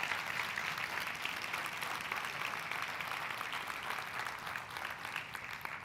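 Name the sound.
audience applause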